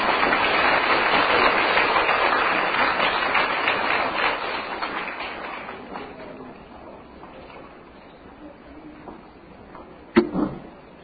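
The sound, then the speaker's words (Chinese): A crowd applauds to welcome a radio station head, with dense, steady clapping that stays loud for several seconds, then gradually thins and fades away, followed near the end by a single sharp knock. “请各位朋友用最热烈的掌声请出我们尊敬的林天鹏台长”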